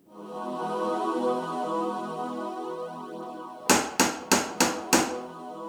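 Five loud, evenly spaced knocks on a door land in quick succession after several seconds of a steady, low droning hum with layered tones that continues underneath.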